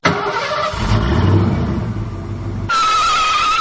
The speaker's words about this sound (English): Okay, now you can start your car. Yeah, right, here we go.